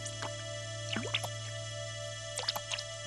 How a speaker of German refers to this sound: Plötzlich hat Kalli nasse Füße. Was ist das? Wasser im Schiffchen? Kalli beginnt das Wasser aus dem Boot zu schöpfen.